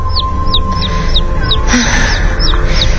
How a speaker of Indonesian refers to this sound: Karena suara anak ayam itu terdengar cukup jauh. Namun suara itu terdengar cukup menggangguku.